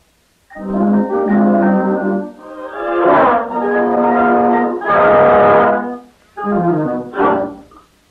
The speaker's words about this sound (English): followed by the flutes and clarinets against a background of saxophones and brasses playing flutter-tonguing